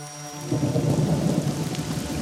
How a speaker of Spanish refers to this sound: Una noche se levantó una terrible tempestad. Relampagueaba y tronaba. La lluvia caía a torrentes. Era verdaderamente espantoso.